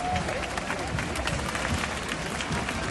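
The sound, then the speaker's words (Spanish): A large crowd at a parade applauds the king and queen steadily throughout, a dense, continuous wash of many hands clapping at once with a faint murmur of voices blended underneath. “Esto ha contrastado con los aplausos a los reyes.”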